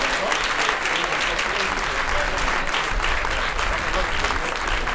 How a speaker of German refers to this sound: Vielleicht mal, wenn Sie eine Hand haben, einen Beifall für diese Bands, weil die machen das nicht.